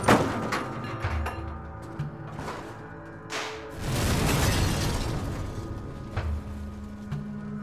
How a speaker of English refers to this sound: The steel jerked the truck one final time into the wall and swung it around in a clockwise motion. The truck exploded through the wall and flew into the air before dropping down and smashing into the rocks below.